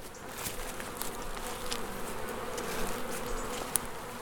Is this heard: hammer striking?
no